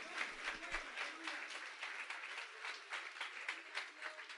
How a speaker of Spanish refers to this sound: Denle un aplauso al que vive. Aleluya. Qué lindo es Dios.